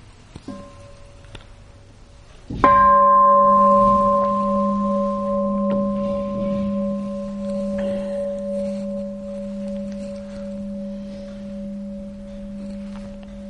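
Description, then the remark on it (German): A single bell strike, its clear tone ringing out and slowly decaying over more than ten seconds in an otherwise quiet setting. “Genau, dann hören wir vielleicht noch mal kurz eine Glocke.”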